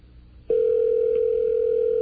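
A telephone ringing tone sounds on the line of a call to a Holiday Inn in Little Rock, Arkansas: one steady, low-pitched electronic tone that starts after a brief quiet moment and holds loud and unbroken to the end, with no voices.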